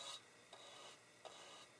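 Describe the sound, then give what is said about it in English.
A brush sweeps back and forth across the outside of a typewriter in soft raspy strokes, a few repeated swishes with small clicks between them, and no voices. “just by brushing the outside.”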